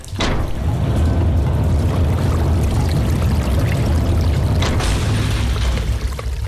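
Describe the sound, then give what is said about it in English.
Water rushes and gurgles steadily as it drains out under a heavy door through a six-inch gap, a loud, continuous churning flow with deep low rumble and occasional splashy surges, with no voices. “The water started to drop, bubbling under the heavy sec door, through the 6-inch gap that Ryan had left for it”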